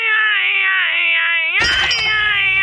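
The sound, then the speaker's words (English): A baby cries in the background of a phone call in one long, high, wavering wail that holds steady for over a second, then carries on more faintly beneath a sudden burst of rough, noisy sound. “You hear your baby crying in the background.”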